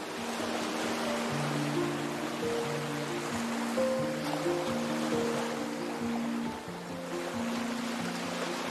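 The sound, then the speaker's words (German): A gentle, steady rushing of ocean waves, soft and continuous, with sustained mellow tones humming underneath like a calm ambient pad. No one speaks. “Dein Atem gleicht dem wohligen Rauschen von Wellen.”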